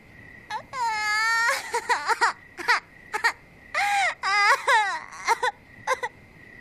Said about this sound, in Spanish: El niño estaba sentado llorando al pie de una pared.